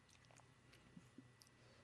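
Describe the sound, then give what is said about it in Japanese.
Quiet chewing of a crunchy snack, with a few soft crackling bites and mouth sounds over a low, steady background hum; no talking. “二人もぐもぐしてごらん。コサコンをさボリボリボリボリって。”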